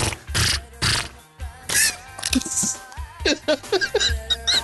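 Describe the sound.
A person makes a buzzing, wavering horse-fly noise with their voice, a string of short, fairly loud buzzy bursts that rise and fall in pitch after some breathy rustling.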